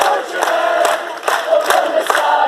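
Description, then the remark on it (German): A dense crowd of demonstrators at the city gate in Valletta, Malta, roars and cheers steadily during a protest against corruption as two banners reading 'Mafia State' are unfurled, with bursts of sharp clapping and raised voices rising and falling over the continuous din, loud throughout with no single speaker standing out. “Großer Beifall brandete auf, als Demonstranten am Stadttor zwei Transparente mit den anklagenden Worten Mafia State, Mafia Staat entrannten.”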